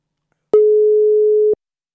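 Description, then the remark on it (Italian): A single steady telephone ringing tone of an outgoing call to Cologne sounds for about a second, a clean mid-pitched beep with soft clicks at its start and end, followed by silence. “Vediamo, sta squillando, tutto in diretta.”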